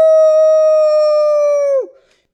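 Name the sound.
wolf howl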